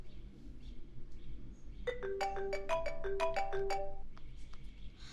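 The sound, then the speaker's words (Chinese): A phone ringtone plays a short, bright melody of quick electronic notes for about two seconds, clear over a low, steady background hum, with no one speaking. “都说了不要给我打电话，真的很烦。”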